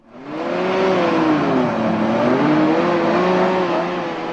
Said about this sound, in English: Sound of a car.